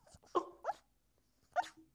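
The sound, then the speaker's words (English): A sleeping puppy lets out a few soft, muffled yips and woofs, three short whimpery barks spaced unevenly, with quiet pauses between them and no talking. “I was like, oh, this puppy's barking in his sleep and it's really cute.”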